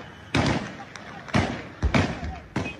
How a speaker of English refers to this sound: Yesterday, gunfire rocked Libya's capital, Tripoli.